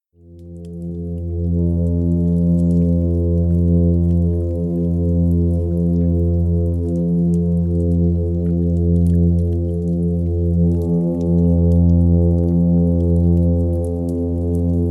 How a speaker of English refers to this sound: The hums from these midshipmen can be quite loud, and they can even be heard outside of the water by humans. So these really unusual fish have their singing ability, and they are nocturnal, so they mostly sing at night.